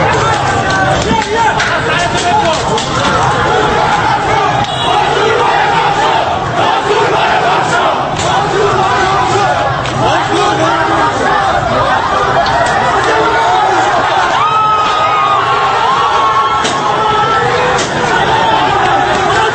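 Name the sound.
protest crowd chanting slogans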